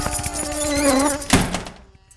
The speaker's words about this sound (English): Attention, safety personnel. Hold. Riot protocols engaged. Razor moths released. Seek shelter immediately.